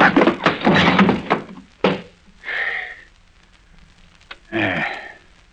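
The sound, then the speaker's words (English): A scuffle of rough, noisy movement ends in a sharp, heavy thud as a man hits the floor hard, followed by a couple of short pained grunts. “Hey, you landed kind of hard, sir.”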